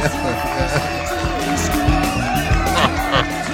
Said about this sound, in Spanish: Aplauden aquí todo.